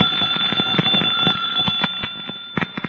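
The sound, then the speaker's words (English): A doorbell rigged to set a fire going rings continuously for about three seconds, a loud, shrill electric bell with a rapid metallic clatter and steady high-pitched tone, with no voices. “a perfectly innocent person might press the doorbell and set the fire going.”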